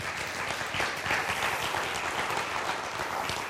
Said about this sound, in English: She did a great job with these things. Give her a round of applause if you would.